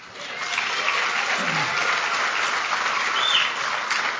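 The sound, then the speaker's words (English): A debate audience applauds during a debate between candidates Ms. Schwartz and Mr. Tipton, a dense wash of clapping that holds at an even, fairly loud level for about four seconds without fading. “Tipton, and so your applause is cutting into their time, and I will cut you all off if you go over again.”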